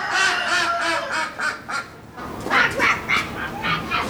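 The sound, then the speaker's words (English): Ducks on display in a poultry tent at the Eaton County Fair in Charlotte quack loudly in a rapid, uneven series of nasal calls while kids quack back at them. After a brief pause comes a second run of quacks, with some overlapping from several birds. “inside a poultry tent at the Eaton County Fair in Charlotte, a show rooster makes its presence known from its cage while a couple of kids quack back at the ducks on display.”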